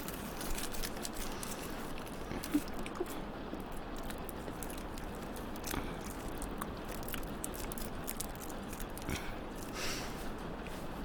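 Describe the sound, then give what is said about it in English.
Steady rain patters down continuously, a dense hiss of drops with occasional sharper taps, fairly soft and even throughout with no voices. “I suppose it's actually quite a good thing it started raining.”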